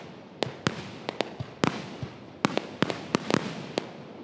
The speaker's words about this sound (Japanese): 大声を出すことが難しい昨今のイベント、普段とは違うおとなしい花火の音に泉ヶ岳で収録した自然の音を織り交ぜてみました。